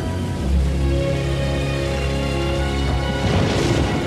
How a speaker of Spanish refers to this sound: Llueve copiosamente sobre el bloque E.